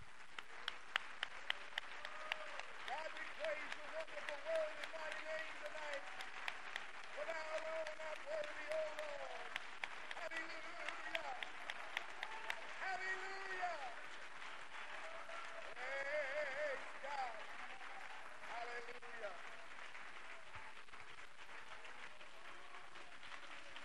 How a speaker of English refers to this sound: Put your Bible down and give the Lord a big hand clap, would you?